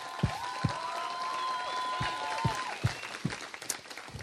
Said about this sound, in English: I don't know who are the party who are responsible for this, but I actually think if you would with me just applaud them, because that's crazy.